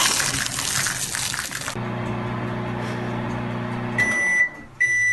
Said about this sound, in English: Microwave.